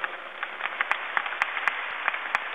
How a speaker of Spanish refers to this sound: Un aplauso a la Sociedad Salesiana.